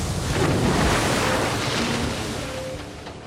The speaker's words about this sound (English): Bursting out of the tunnel, the subpod and the escape vehicle break the surface of the water.